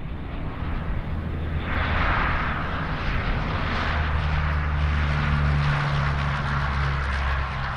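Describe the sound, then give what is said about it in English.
A steady, loud aircraft engine drone fills the air with a broad roar and low humming tones that shift slightly, as if a plane is idling or taxiing, at the Eugene Airport. No one speaks. “He's a flight instructor at Lane Community College, a job that often takes him here to the Eugene Airport.”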